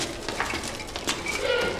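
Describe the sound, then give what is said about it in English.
Turtle doves brought for a sacrifice coo softly in short, low murmurs against a steady wash of background noise, with no one speaking. “These are the turtle doves for the sacrifice.”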